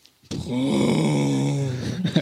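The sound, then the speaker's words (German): A person imitates a tractor engine with one sustained, low, groaning hum lasting about two seconds. The pitch stays fairly steady before it sputters out at the end. “Oh, der hat aber keinen Sprit mehr, der Traktor.”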